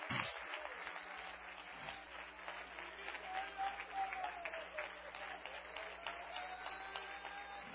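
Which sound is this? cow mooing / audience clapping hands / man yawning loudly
audience clapping hands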